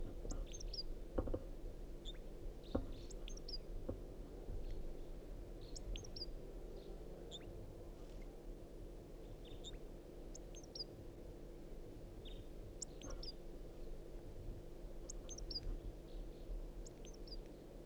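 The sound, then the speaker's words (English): A male wild crossbill, one of a pair in a tree overhead, sings at 5:46 a.m., short high chirps and twittering phrases coming in scattered bursts, fairly faint over a steady low outdoor rumble. “The male's in song. Stop. Start recording wild crossbill.”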